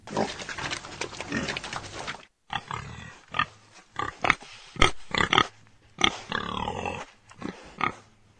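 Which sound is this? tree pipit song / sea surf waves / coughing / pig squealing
pig squealing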